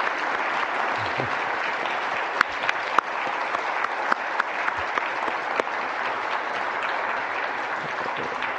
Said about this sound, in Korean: 우리 원로 목사님 연로하신 가운데 이렇게 건강하게 말씀 전해주셔서 감사합니다. 우리 박수를 하겠습니다. 감사합니다.